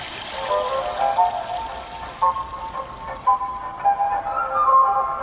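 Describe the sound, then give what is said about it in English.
A steady, fairly loud rush of flowing water like a toilet flushing, played by a device in a Japanese public restroom that mimics an ever-flushing toilet. It runs continuously for several seconds with small gurgling swells and no voices. “A device that mimics the sound of an ever-flushing toilet.”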